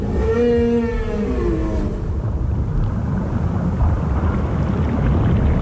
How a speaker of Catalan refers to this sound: Doncs no ens podem perdre els paisatges sonors del fons del mar. Són un altre clàssic que en el nostre imaginari hem tingut des de petits. Podríem, si tinguéssim la capacitat de sentir ultrasons, gaudir del cant de les balenes.